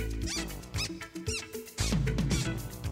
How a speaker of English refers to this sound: My shoes started to squeak.